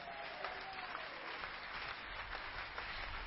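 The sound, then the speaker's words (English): A church audience claps for God during a sermon, a steady, dense wash of applause from many hands, continuous with no voices clearly standing out. “Can we clap our hands for our God?”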